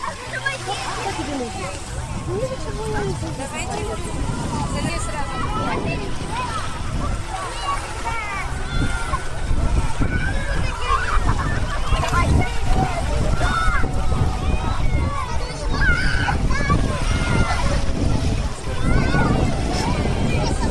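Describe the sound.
A busy beach soundscape by a calm sea with no storm waves: a steady din of many voices and children's shouts as they wade in, bathe and splash, mixing with soft water and wind noise, continuous and fairly loud throughout.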